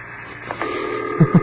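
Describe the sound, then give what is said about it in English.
A telephone ringback tone hums steadily over a line on an outgoing call to the Chad mission to the United Nations at 1:22 in the morning, waiting to be answered, joined near the end by two soft, low thumps. “It's taking an awful long time to get to the phone.”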